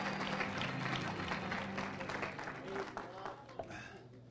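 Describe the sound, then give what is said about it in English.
A seated church audience gives a hand clap of praise in the name of Jesus, a dense, steady burst of applause that fills the whole few seconds, with voices and a low hum carrying on underneath. “Come on, lift up your hands and give them a hand clap of praise as you're seated this morning in the name of Jesus.”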